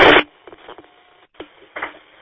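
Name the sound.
radio interference noise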